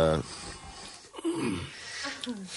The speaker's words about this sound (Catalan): El sentiu respirar. Bueno, el sento jo. Està respirant? En efecte. Afirmatiu.